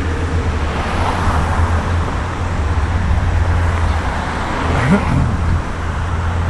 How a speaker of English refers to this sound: I think you'll notice the traffic's probably a little bit worse than last time. Not only are we running a little bit later, but the Jefferson County Public Schools started back last Monday.